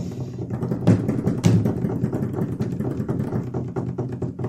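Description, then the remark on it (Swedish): A rapid drum roll, played just before a competition winner is announced, rumbles steadily for several seconds, dense and continuous, with a couple of sharper accented hits early on and no voices over it. “Vi har det. Trumvirvel.”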